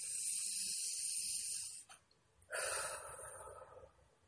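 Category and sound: human body sound, deep breathing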